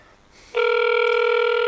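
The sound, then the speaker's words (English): A steady electronic phone ringing tone from a call to a city councilmember starts about half a second in and holds loud and unbroken to the end, like an outgoing call waiting to connect. No voices are heard. “I'm giving him a call and seeing if we can reach him”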